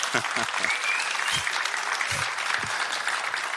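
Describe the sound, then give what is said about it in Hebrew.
A conference audience applauds the speaker's wife steadily, a dense wash of many hands clapping at once, sustained throughout, with a few louder claps and faint voices mixed underneath. “אני רוצה מחיאות כפיים לאשתי, בבקשה.”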